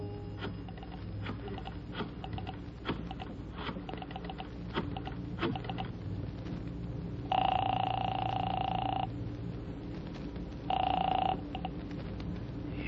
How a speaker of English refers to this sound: I found a phone booth and called Marty Crane's apartment.